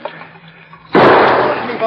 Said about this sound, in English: Somebody put a bullet right into the water skin. It's leaking out.